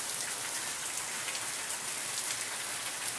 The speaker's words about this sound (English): I know this is kind of a boring day. I just love listening to the rain.